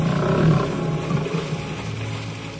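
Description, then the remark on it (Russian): Lions roar in the distance from across a bay, a deep, sustained, rumbling growl that carries on steadily for a few seconds and no longer comes nearer, with no voices over it. “Страшный рев доносился с той стороны залива, но уже не приближался.”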